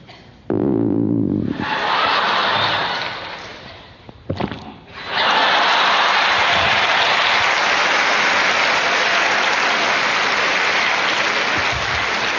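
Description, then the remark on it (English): Swallowing a mouthful of water, heard as a short bubbly gurgle, then a soft thud and a long, loud rushing hiss that lasts several seconds. No one speaks. “The first one, that kind of bubbly sound, is when you pour some in your mouth, your throat closes up.”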